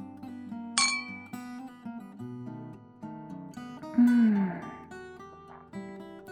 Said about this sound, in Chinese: 好，我们干杯，算是为我们第一次愉快的约会庆祝一下。